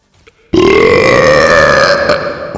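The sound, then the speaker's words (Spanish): A single loud, drawn-out burp erupts after a brief quiet moment at a burping club, the Club de Eructos de San Fernando, a deep rumbling belch that sustains for about two seconds with a gravelly, croaking tone, unbroken by speech. “Cría cuervos y eructarán en tu cara.”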